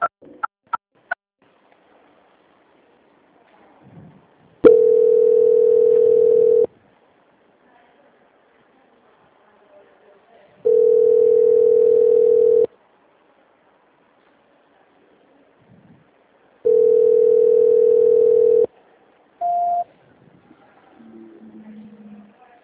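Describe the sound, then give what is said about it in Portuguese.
A phone line's transfer waiting tone as a call is transferred to a quality center: three long, steady mid-pitched tones of about two seconds each, separated by quiet gaps, then a short higher beep and faint murmur at the end. “Nesse momento, vou estar encaminhando a sua ligação para a central de qualidade para prosseguirmos com as confirmações.”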